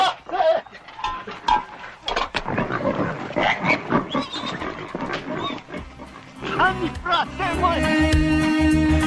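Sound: pig squealing and grunting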